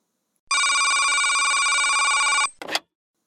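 A telephone rings with a steady, bright electronic tone for about two seconds, then cuts off and is followed by a short clattering burst, like the handset being picked up.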